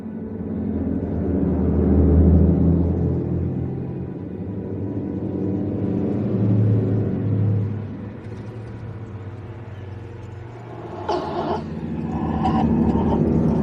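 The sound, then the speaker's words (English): A bus engine rumbles low and steady, swelling as it revs and pulls away after its door closes, with a brief burst of mechanical whirring and clatter near the end. “The bus pulls away.”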